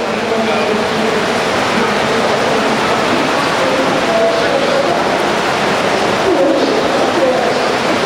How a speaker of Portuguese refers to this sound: Tá caindo água aqui. Tá caindo água. Aí, ó.